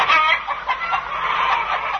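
Several chickens cluck steadily and fairly loudly, a busy overlapping chatter of hens that continues for about two seconds with no voices present.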